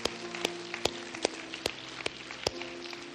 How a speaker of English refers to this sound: And so since there's 4 or 5 people doing that today, won't we all just give the Lord a hand clap today for those who made that decision? Amen.